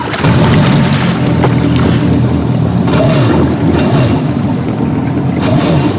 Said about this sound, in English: And now, I grab a hold of these handlebars. And when I give them a twist, we'll start going. Are you ready? I'm more than ready. Then on the count of three, let's drive this water scooter. One, two, three.